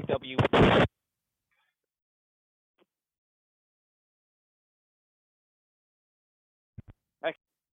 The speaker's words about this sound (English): Okay, right, so we're expecting the start cannon to go very shortly. As the start cannon has just gone, the boats will be off.